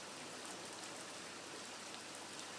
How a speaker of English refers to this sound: The wee burn next to me is running very, very hard now. Almost not coping.